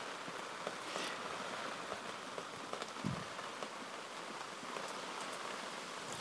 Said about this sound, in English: but then I wanted to come out here with the rain to get primarily to get a sound of the rain. It's fortunately it's not anything severe, it's just rain right now, which I've been wanting to do for a while, get it so that y'all can hear it.